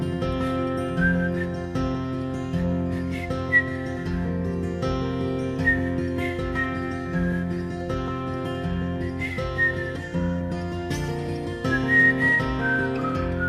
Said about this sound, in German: Sein verhaltenes Pfeifen klingt sympathisch unprofessionell.